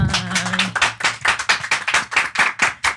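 Applause for the show's producer on the last program she produces: steady, evenly spaced hand claps, about three or four per second, crisp and fairly loud throughout, with a brief low hum under the opening moment.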